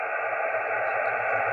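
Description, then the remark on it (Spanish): Steady, muffled shortwave receiver hiss with a low hum underneath, as faint amateur radio stations are buried in the static under poor propagation conditions; no clear voices stand out and no one speaks. “Muy bajito, escucho unas estaciones, pero muy, muy, muy bajito.”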